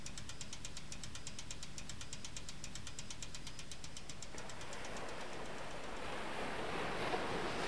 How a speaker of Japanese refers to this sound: 僕が目を覚ますと自転車の後ろのタイヤがカラカラ音を立てて回っていた。